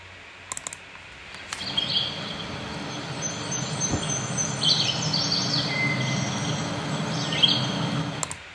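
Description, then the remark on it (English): Several songbirds (red-eyed vireo, chestnut-sided warbler, eastern towhee, ovenbird and black-and-white warbler) call and sing over a steady outdoor hiss, with repeated bright chirping phrases and a few sharp clicks near the start. “We had red-eyed vireo, chestnut-sided warbler, eastern towhee, ovenbird, and black and white warbler.”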